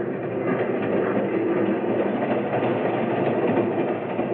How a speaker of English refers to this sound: All aboard. Train leaving for Lake Placid. All aboard.